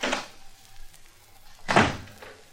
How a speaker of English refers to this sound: And don't slam the door as you go out.